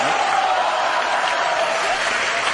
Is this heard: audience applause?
yes